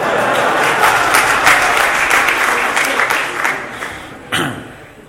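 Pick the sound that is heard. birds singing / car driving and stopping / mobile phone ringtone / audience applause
audience applause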